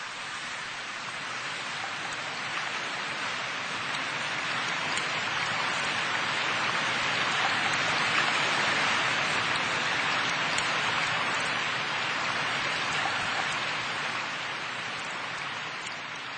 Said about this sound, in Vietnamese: Đêm hôm đó, tôi không tài nào ngủ được, ngoài trời mưa rả rích trên khu vườn tối om.